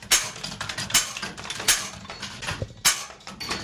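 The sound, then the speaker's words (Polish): A hand crank with a pinion set on the toothed ring of the drum winds an iron, weight-driven tower clock mechanism: steady metallic clicking and ratcheting, with louder clanks roughly every second over a continuous gritty grinding, and no voices. “No i kręcimy korbę.”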